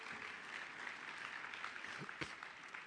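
An audience claps steadily for the full length, a dense, even wash of many hands with no pauses, and one slightly sharper burst of clapping partway through.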